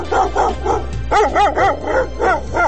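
Stray dogs in Sarajevo bark in a rapid, continuous run of about nine loud barks over a steady low rumble, with no voices.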